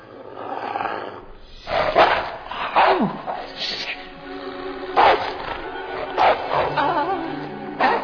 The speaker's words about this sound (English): Oh, you have a dog. Nah, I ain't got no damn dog. Well, then, whose dog is that?